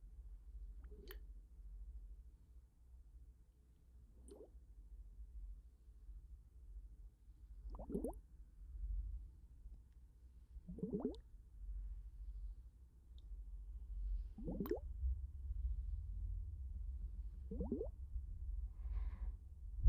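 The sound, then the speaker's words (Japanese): Soft ASMR water plops and drips surrounding both ears, about six of them spaced a few seconds apart, each with a brief upward bloop, over a low steady rumble with no talking. “練習中なんで、あまりまだ上手じゃないかもだけど、両耳を水の音で包み込んでいきます。”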